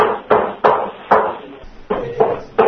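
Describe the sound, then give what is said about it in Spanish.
Hammer blows from construction work: six loud, sharp strikes at an uneven pace, each ringing briefly before fading, with a short pause midway and no voices. “Bueno, y Agustín se pone a buscar el sitio, pero los martillazos siguen.”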